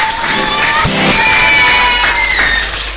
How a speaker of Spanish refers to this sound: 10 años, y vamos a brindar un fuerte aplauso para todos ellos y para todas las personas que hacen posible esto.